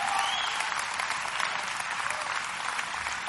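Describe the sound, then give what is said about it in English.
Steady applause from a crowd, a dense, continuous patter of many hands clapping at a fairly even level throughout, with no voices standing out. “Clap, man. Help me out here.”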